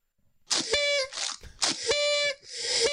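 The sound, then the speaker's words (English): A whistle sound effect blows twice in quick succession. Each loud blast opens with a breathy rush of hiss before settling into a steady, shrill tone like a steam whistle. “Hit the whistle”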